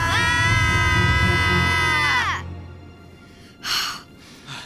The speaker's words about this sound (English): Yell at the top of your lungs.